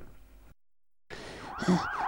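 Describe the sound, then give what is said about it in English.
After a short burst of muffled noise and a brief silence, a loud ambulance siren wails in sweeping rising-and-falling tones over a steady rumble of traffic. “Bloody hell, so could we call for an ambulance?”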